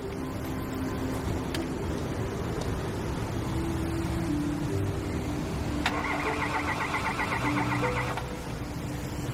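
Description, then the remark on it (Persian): A stalled car engine cranks over and over without catching as someone tries to start it, a steady churning whir that runs nearly the whole time, with a brief higher whine partway through and no voices. “رد می‌شدم دیدم اینا خاموش شد، هر کاری کردم دیگه روشن نشد. بشین یه استارت بزن.”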